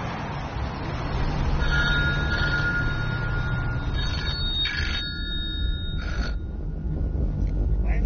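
A telephone rings with a bright, warbling electronic tone in repeated bursts over a steady low rumble, clear, with no one speaking: a doctor's phone getting an emergency rescue call on the way home.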